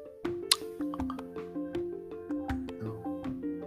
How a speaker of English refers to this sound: oh shit, why is my phone beeping?